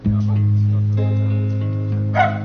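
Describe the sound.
A single short dog bark rings out near the end, cutting through sustained, swelling orchestral music with a singing voice that plays throughout.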